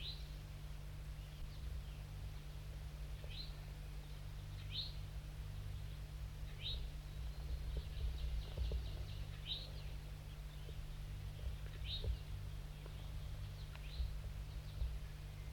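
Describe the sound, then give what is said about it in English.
Short, high chirping calls of wild birds perched above a set-up net repeat at irregular intervals, roughly seven or eight sharp downward notes, heard over a steady low hum and background noise. No one speaks. “Recording the wild birds now perched above the net set up.”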